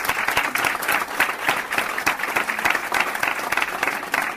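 Steady, dense applause from an audience thanking a choir singer, many hands clapping at once in a continuous, fairly loud wash of sound with no voices standing out.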